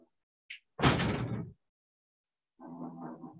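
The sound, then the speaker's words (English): A door is closed with a brief click, then a loud, broad whoosh and thud lasting under a second; a moment of silence follows before a faint voice starts speaking. “I'm going to close my door, though.”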